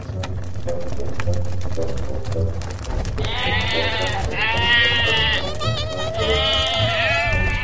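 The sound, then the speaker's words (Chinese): Several sheep gathered around a fire bleat in wavering, overlapping cries that begin a few seconds in and continue almost nonstop, fairly loud, over a steady low rumbling background. “那我们就来测试看看吧，把一个故事跟一团正常的火放在这里，看看绵羊会选哪一个。”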